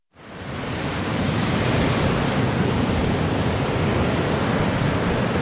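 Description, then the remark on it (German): Steady wind and rushing surf on the coast of Bornholm, a Danish island in the Baltic Sea, on a cold, wet, windy February day; a dense continuous roar that fades in quickly and holds at a loud, even level with no voices. “Ein kalter, nasser und windiger Februartag auf der dänischen Ostseeinsel Bornholm.”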